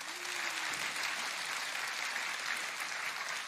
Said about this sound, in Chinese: 我好佩服，给他们掌声吧。